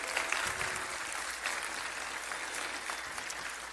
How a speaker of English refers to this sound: So happy Mother's Day to all the moms out there. Let's give a round of applause to the moms in the room.